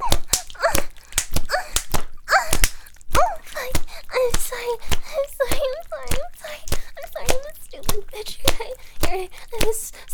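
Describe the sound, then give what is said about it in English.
Loud, sharp slaps repeat rapidly and steadily, about two per second, while a voice whimpers and cries out between them as a person is slapped and has their hair pulled. “No, please stop slapping me and pulling on my hair.”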